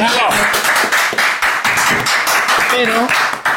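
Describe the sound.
A crowd applauds loudly and steadily for a few seconds, a dense patter of many clapping hands, with some voices calling out and whooping over it.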